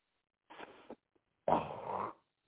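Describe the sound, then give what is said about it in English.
Two harsh throat-rasping bursts of someone hawking up phlegm: a shorter one, a pause, then a longer, louder gurgling hawk. No speech is heard. “That's me hawking up a loogie.”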